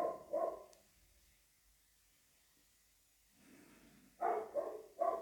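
A dog barks a couple of times, falls silent for a few seconds, then lets out a quick run of three more barks. No one speaks.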